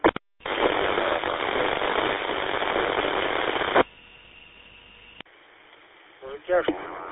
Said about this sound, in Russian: Услышал только 6. Очень идет большая помеха на фоне вашего сигнала. Такой задир идет сигнала.